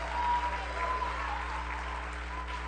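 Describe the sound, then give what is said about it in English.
An audience claps together in praise of God in a steady, dense wash of applause that holds at an even level throughout, with a faint murmur of voices mixed underneath. “If you've been changed by Jesus, would you just give God a great hand clap of praise and let your neighbor know?”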